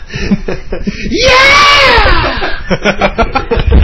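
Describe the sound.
A man belts out a loud, sustained rock-style scream imitation, rising and then sliding down over about a second, with chatter and some laughter just before and after.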